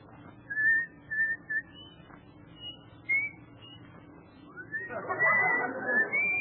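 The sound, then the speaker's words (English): A man whistles the tune Comin' Thro' the Rye, a short melody of a handful of clear sustained notes separated by brief pauses over a low background hum, with a louder, busier stretch near the end. “Let me hear you whistle coming through the rye.”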